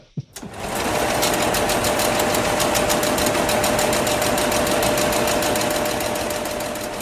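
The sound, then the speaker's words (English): A Hollerith punch card sorter machine, on loan from IBM and shown in a showcase in a new exhibition at Bletchley Park, runs with a loud, rapid, evenly ticking mechanical clatter over a steady whirring hum, starting abruptly after a brief click and continuing without pause. “This big metal beast inside the showcase that we're stood next to is a Hollerith sorter machine, which is on loan to us from IBM, who have very kindly sent it up to Bletchley Park”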